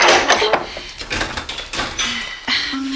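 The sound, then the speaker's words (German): A stiff, heavy wooden door of a horse stable is dragged and shoved open by two people in several effortful scraping pushes, with creaks and thuds, ending in a low grinding groan. “Die Tür, Mensch, ich helfe dir.”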